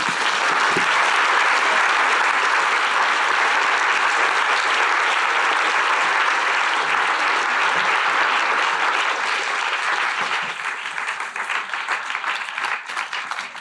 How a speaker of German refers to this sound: So, und jetzt bitte ich Sie mit einem Applaus, Wally Export und Nadia Tolokhonnikova, auf die Bühne zu bitten.